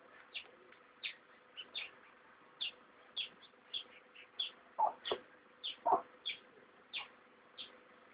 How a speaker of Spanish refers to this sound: Pues, vamos a ver. Pollitos, pollitos.